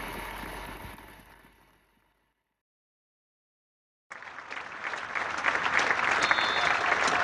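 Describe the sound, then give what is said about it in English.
A stadium crowd gives a minute's applause before a match, sustained applause that fades out to a couple of seconds of silence, then a fresh wave of dense, loud clapping and crowd noise swells back in and builds. “Well, there you had a very heartfelt, genuine and poignant minute's applause as red and white balloons now are released high into the sky”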